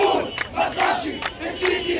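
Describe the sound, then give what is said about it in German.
A crowd of a few hundred mostly young protesters on Tahrir Square in Cairo chants slogans in unison demanding that President al-Sisi step down, including "Say it, don't be afraid, Sisi must go" and "Go away": loud, rhythmic bursts of many voices rising and falling with short gaps between shouted phrases. “In Sprechchören verlangten sie, dass der Präsident abtritt.”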